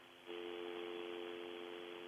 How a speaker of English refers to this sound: Oh, I'm sorry. I got a little dial tone.